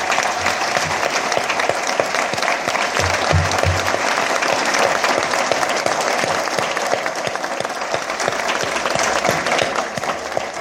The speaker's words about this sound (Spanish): que ojalá se puedan poner de pie y que les demos un aplauso a todos estos niños que trabajaron.